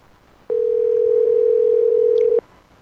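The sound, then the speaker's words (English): A single steady electronic ringing tone on a phone line as a radio host calls a listener on air, one unbroken burst of about two seconds that starts and stops abruptly, clear and alone with no voices. “Ringing on the air again.”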